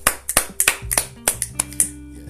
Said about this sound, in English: So let's give a round of applause to ourselves.